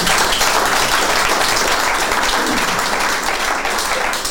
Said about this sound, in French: Ça mérite les applaudissements du public.